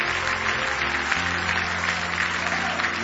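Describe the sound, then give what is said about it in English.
A church audience claps steadily in praise of the Lord, a dense wash of many hands, with a sustained organ or keyboard chord droning underneath. “Give the Lord another big hand clap of praise if you love Him.”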